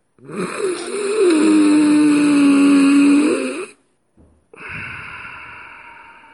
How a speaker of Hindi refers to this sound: कुंभक अर्थात कुछ देर अंदर की ओर अर्थात उदर में, फेफड़ों में श्वास को रोक कर रखें। फेफड़े में श्वास को आपको रोक कर रखना है, कुंभक करना है, उसके बाद ही श्वास को छोड़ना है, कुछ इस तरह से।